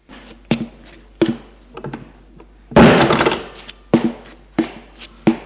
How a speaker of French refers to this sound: Xavier entre et il ferme la porte.